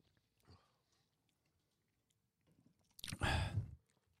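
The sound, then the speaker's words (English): A sip of a 5% whiskey drink with vanilla, citrus and toffee notes: a faint brief sound, a pause, then a loud, wet slurping draw lasting about a second, with no talking. “Let's have a sip.”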